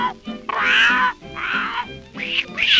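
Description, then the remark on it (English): Three drawn-out, nasal meows follow one another in quick succession, loud, apparently a human voice imitating an old tomcat, with a soft background beneath. “Well, the old tomcat.”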